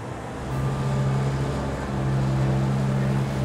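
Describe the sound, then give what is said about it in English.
Water rushes through a just-opened main inlet ball valve on its way to a generator: a steady, loud rush that surges in after a brief moment and holds constant, with a deep droning hum running underneath. No one speaks. “That's the water rushing past.”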